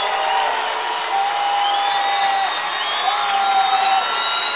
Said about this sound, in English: And you got 6,000 people loud on that band right now. Listen to them yell.